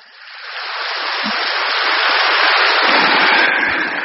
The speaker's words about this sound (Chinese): 鼓掌。